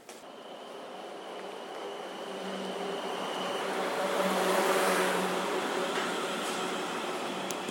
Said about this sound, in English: And dead on time. 6:37. Platform 9 for the 06:37 Southwest train service to Weymouth. Calling at Woking, Basingstoke.